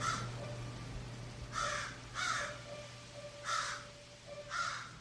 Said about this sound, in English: And it's crow. C'est un corbeau, c'est pas une corneille.